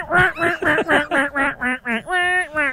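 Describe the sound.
A duck call is blown in a hunting style in a rapid run of about ten loud, raspy, clear quacks. The rhythmic sequence eases into a longer drawn-out note near the end.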